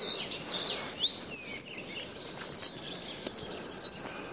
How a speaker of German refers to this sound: Das Gezwitscher war hier ja sowieso immer schon am meisten, aber es wird mehr.